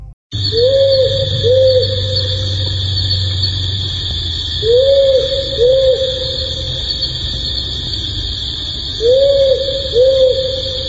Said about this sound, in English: That's the hoot of a powerful owl. Powerful owls are the largest owls in Australia. They're about 60 centimetres high, with bright yellow eyes and big yellow feet.